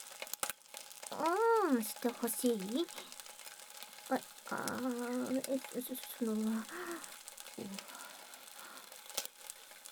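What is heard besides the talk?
bacon sizzling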